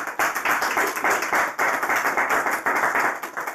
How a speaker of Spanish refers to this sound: Y como dice la iglesia, vamos a dar palmas al Señor por eso.